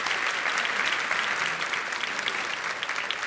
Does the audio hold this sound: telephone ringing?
no